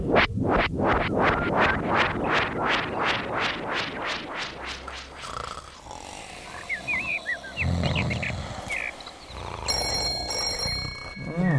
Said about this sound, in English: Clubhouse phone? Clubhouse phone? Huh? Oh, Clubhouse phone, I got it. Hello?